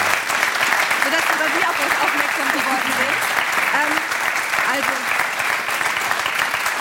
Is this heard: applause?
yes